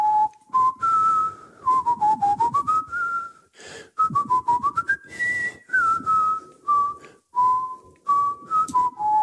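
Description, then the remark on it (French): A dancer whistles a Bach melody, a clear single tone stepping up and down through a flowing phrase with brief pauses for breath, fairly loud, with no talking. “Donc est-ce que vous pouvez nous siffloter pour terminer l'interview ce matin? Qu'est-ce que vous voulez? Un peu de Bach.”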